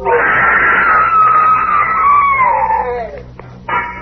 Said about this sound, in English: I never heard that scream.